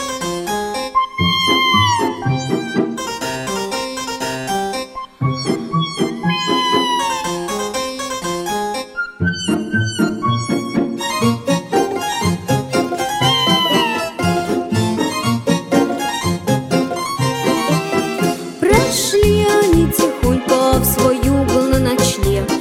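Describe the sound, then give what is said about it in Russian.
Small kittens meow again and again, their high, sliding cries woven through a loud, busy musical backing that plays without pause for the whole stretch. “Один было ночью зимой в январе, два маленьких котенка озябли на дворе.”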